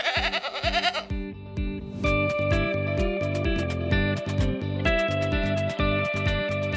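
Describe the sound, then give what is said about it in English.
A goat, of the kind used in California's wildfire preparation work, gives a short, wavering bleat for about a second, then rhythmic music with a steady drum beat takes over for the rest. “So the real project to get the state ready for this year's major fires involves thousands of people, millions of dollars, and, as it turns out, quite a few goats.”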